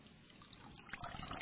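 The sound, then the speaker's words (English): Water trickles and dribbles steadily from a sponge soaked in water, a soft continuous splashing that grows a little busier toward the end. “It's pouring out all this water.”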